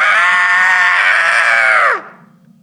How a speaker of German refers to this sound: Der grässliche Schrei des alten Mannes kam so plötzlich und war so unmenschlich, dass ich fast die Besinnung verlor.